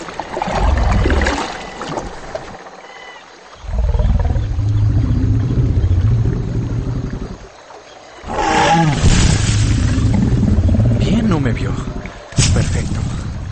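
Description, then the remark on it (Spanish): A huge creature, a stegosaurus, lets out deep, rumbling roars in several long bursts broken by short pauses, the later calls rising into a harsher, growling bellow. “Si no me equivoco, creo que es un estegosaurio.”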